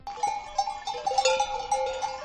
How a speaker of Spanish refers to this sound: Otro ruido, sonido, este que nos lleva a la trashumancia con los 5 rebaños de ovejas lachas que han protagonizado en Ordizia el Archain Eguna. El día del pastor, a las 11 de la mañana, 1.500 animales han cruzado la calle mayor de la localidad